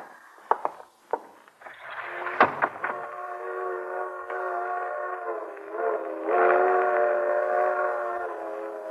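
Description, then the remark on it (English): A freight train's whistle sounds a long, sustained multi-tone chord that swells slightly toward the end, preceded by a few sharp clanks, with no talking. “Hear that, Iris? Freight train.”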